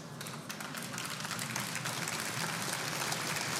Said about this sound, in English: That is the lamest clap I've ever heard for a miracle of God.